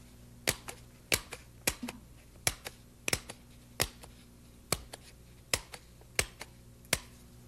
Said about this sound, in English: Now, those go on the table, and now I'll just make a design by folding this paper and punch and punch and punch. See what it looks like.